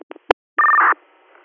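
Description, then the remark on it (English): Telephone keypad tones as a number is dialed to call back an alarm company: three quick, clipped beeps followed by a longer, steady two-pitch tone, then a faint hiss. No voices. “We can attempt to call back to them.”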